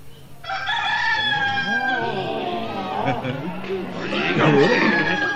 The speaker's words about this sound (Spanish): Sí, es un gallo.